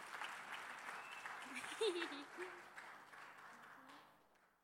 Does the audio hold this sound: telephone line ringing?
no